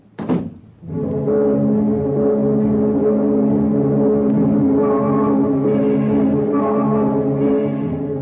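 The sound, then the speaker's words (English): A car engine turns over after a brief thud, then settles into a loud, steady droning rumble that carries on unbroken as the car is taken out of the garage and driven off. No one speaks. “You get the car out of the garage, you drive up and park in their parking lot.”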